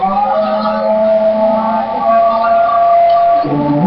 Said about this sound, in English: The noise you've just heard are engineers working on the Toyota car. They have it in the garage, or what's acting as a garage for today, and they're all clustered around it